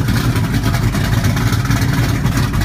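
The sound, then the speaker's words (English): A loud, steady car engine rumbles continuously, a low throbbing drone with a faint rhythmic pulse, like a car running at idle or low revs, with no voices. “I said that's a nice car you got there.”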